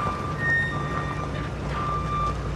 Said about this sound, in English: Meanwhile, the tow truck is stopped as a tractor trailer backs up.